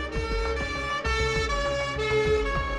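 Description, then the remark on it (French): A loud emergency vehicle siren wails continuously, its steady tones riding over a deep, pulsing engine rumble, with no voices, as emergency vehicles speed through the small streets of a sleeping town. “Les véhicules de secours filent à vive allure dans les petites rues de la commune endormie.”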